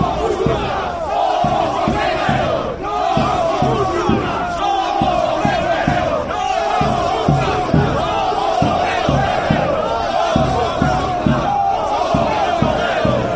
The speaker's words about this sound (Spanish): Escuchamos un poco del griterío que había esta mañana en Madrid.